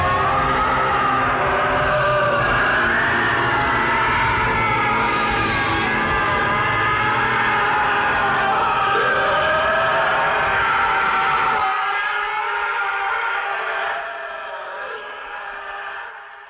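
A long, agonized scream from a movie, the scream of ultimate suffering, howls loudly, wavering and sliding in pitch over a rumbling low roar; the rumble cuts out partway through, and the wail tapers off alone.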